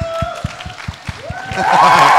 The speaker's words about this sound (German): Applaus für